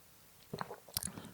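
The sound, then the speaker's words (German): A few soft, wet sips and swallows of sweet premium direct juice after a toast, with small lip smacks and no talking. “Oh, das ist aber ein Premium-Direktsaft. Und schön süß, hä?”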